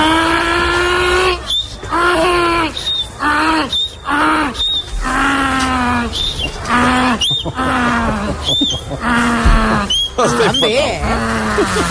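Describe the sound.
A man's voice imitates a donkey's bray: loud, rhythmic hee-haw cycles repeating for about twelve seconds, with rising and falling pitch and brief gasping breaths between; he is a scout group leader filmed surrounded by children, who all cheer when he finishes the bray.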